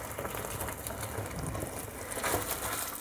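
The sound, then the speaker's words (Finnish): All the hot pasta cooking water pours steadily into a colander set in a sink, a continuous hissing, splashing rush with a faint metallic rattle, holding an even loudness for about three seconds with no talking. “Mä päästin nyt ihan kaikki pastan keitinvedet, mä en niitä sekoittele tällä kertaa tähän pastaan mukaan.”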